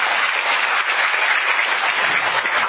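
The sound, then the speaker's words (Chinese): Steady applause from an audience, given as encouragement, fills the whole moment, a dense, even patter of many hands clapping at once with no pauses or voices. “来，掌声鼓励。”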